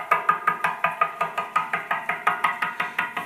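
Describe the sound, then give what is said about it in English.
Rapid, steady knocking on a door, with nearly twenty sharp raps at an even rhythm. It is fairly loud, and there is no talking. “To everyone that the door's open for, you can bet that they didn't quit knocking”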